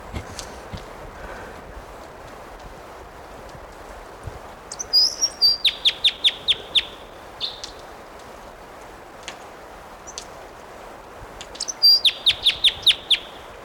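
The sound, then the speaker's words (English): A male bird sings two short bursts of quick, sharp repeated chirps mixed with a thin whistle, fairly clear against a steady outdoor hiss, with quiet ticks and rustles between phrases. “Here's that bird.”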